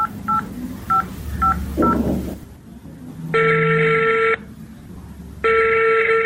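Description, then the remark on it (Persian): Five quick, evenly spaced keypad beeps from a mobile phone being dialed, then two long, loud ringing tones with a pause between them. Clear, with no talking. “موبایلم بده که با مامای زنگ بزنم.”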